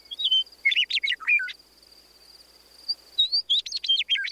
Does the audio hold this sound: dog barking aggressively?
no